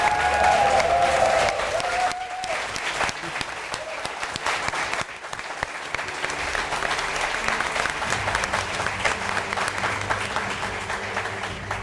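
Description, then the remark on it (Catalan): Sustained applause from an audience of around a hundred people filling a hall at the Palau Robert on Passeig de Gràcia in Barcelona, dense and steady clapping for over ten seconds, with a brief tonal sound at the very start. “Estem molt i molt contents d'aquesta resposta del públic avui, omplint aquesta sala, el públic que ens acompanya, unes 100 persones, un aplaudiment molt fort per vosaltres.”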